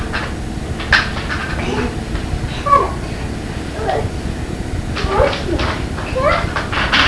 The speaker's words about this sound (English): What do you think you heard? A cat fight? Yeah.